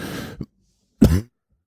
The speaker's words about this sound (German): Hopsasa, da hat der Husten wieder zugeschlagen. Wir sind heute auch wirklich angeschlagen.